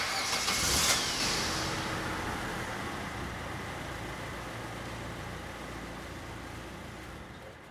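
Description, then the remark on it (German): A man gets into a car; its engine starts with a brief loud burst, then settles into a steady, broad mechanical rumble that slowly fades as he drives off. No voices. “Er geht zu einem Fahrzeug. Er steigt jetzt ein. Er fährt fort.”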